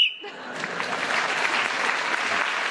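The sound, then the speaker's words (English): A short, sharp whistle blast ends a round on a panel game show, then is quickly swallowed by a burst of steady audience applause that carries on loudly to the end. “So, Paul got another point for speaking to Whistle Wendell, another one's in that round.”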